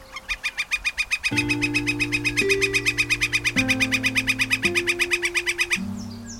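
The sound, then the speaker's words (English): A bird gives a long, rapid series of sharp, evenly spaced calls, fairly loud, while sustained organ-like chords swell in underneath and shift every second or so. “They just think it's a woodpecker.”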